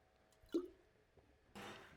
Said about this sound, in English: When they listen to this online, they're going to hear that drop of water. It's going to sound like I'm fishing.